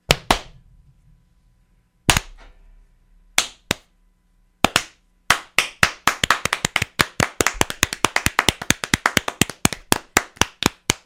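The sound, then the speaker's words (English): Hand claps, slightly muffled as if the hands are covered in cloth: a few spaced single claps, then a quickening run of sharp claps in a steady, accelerating rhythm with no talking. “Welcome to ASMR Hand Clap, your weekly clapping of the hands in the ASMR.”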